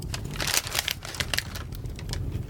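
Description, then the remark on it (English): Paper crinkles and rustles in a steady run of crisp, irregular crackles for a couple of seconds, like a sheet being gathered up, with no voices. “Pick up the paper!”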